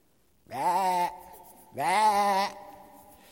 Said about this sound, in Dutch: Als wij hier in Gods huis zijn, weet u, dan hoor ik eigenlijk allemaal schapen.